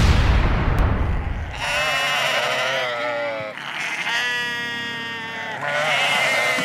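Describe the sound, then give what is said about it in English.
Sheep on a small farm raising market lambs and breeding stock bleat loudly in long, wavering cries, two or three calls overlapping one after another, after a brief low rumble at the start. “We raise sheep, market lambs, and breeding stock.”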